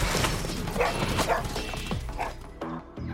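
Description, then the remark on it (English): A scared dog, out of sight in an alder thicket in Alaska after chasing a large animal, yaps repeatedly in short, high bursts in the distance amid a busy, rustling outdoor background, with a few sharper yips toward the end. “They could only hear it in the distance. It wasn't barking, it was yapping.”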